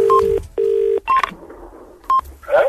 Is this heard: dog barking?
no